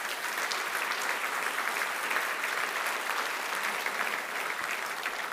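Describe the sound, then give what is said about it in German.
Steady, sustained applause from an audience fills the whole stretch, a dense even patter of many hands clapping at constant loudness without any voices standing out. “Ich würde das schaffen so lange, aber die Arbeit haben Sie beim Klatschen.”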